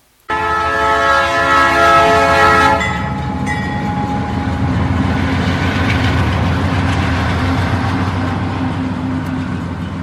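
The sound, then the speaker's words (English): A loud steam train whistle blows for a few seconds, then gives way to the steady chugging rumble of the train rolling along, with no voices. “Don't be shy, hop on the train. This ride is full steam ahead and you want to take advantage of it. Choo choo.”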